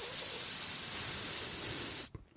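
A faint, steady, airy hiss, heard as puffs of smoke arise over the common towards Chertsey, holds at an even level for about two seconds, bright and high-pitched, then cuts off abruptly into near silence. No voices are heard.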